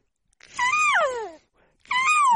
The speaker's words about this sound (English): Kitty.